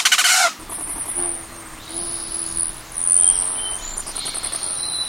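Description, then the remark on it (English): A male Rufous hummingbird's wings whistle as it plunges almost straight down from a height of 75 feet: a brief rushing burst, then sustained shrill, thin whistling tones with a few chirpy squeaks, with no voices. “Hovering like a tiny winged flame, the male Rufous hummingbird rises to a height of 75 feet before plunging almost straight down, his wings whistling.”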